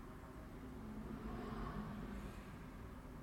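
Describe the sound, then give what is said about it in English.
A car passes by outside, a muffled low rumble of road noise that swells slightly in the middle and then eases off, with no one talking. “A car drives by.”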